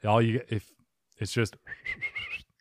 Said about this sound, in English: And then the last scenario is you can only communicate through whistles. You can't talk anymore.